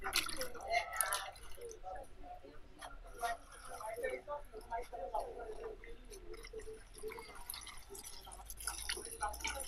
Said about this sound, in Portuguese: A seguir, temos de passar peça a peça para uma primeira bacia com água nova.